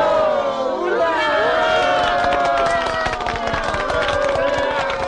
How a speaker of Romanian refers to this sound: A urmat aclamații entuziaste și aplauze.